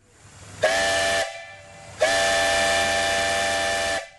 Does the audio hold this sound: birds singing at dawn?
no